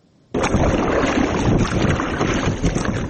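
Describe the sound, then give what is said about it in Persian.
A rubber passenger boat crossing the Kofarnihon River at the village of Shirkhoni in Hisor district, about 10 km from Dushanbe, heard as a loud, steady rush of water and wind. It begins abruptly after a short moment of quiet and continues without a break. “سفر مراد 17 سال است که مسافر کشانی میکند، البته نه با ماشین بلکه با قایق.”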